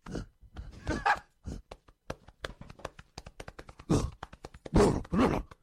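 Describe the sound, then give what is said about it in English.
On a dare, a person imitates a gorilla, letting out hoarse grunts and hooting cries over a steady, rapid patter of hands thumping on their chest. The vocal bursts swell loudest near the end. “On your chest and act like a gorilla for the next minute.”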